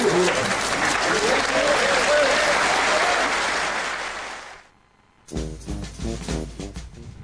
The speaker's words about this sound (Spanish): Escuchamos una algarabía popular inmensa, las opiniones de diferentes personas, una explosión de muchas cosas, ¿no? De júbilo total.